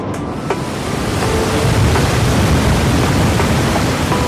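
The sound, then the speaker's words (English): Kaieteur Waterfall roars steadily, a dense, loud wash of rushing water that fills the whole scene without pause, with no voices. “But what we can reveal is the legend of how Kayatur Waterfall got its name.”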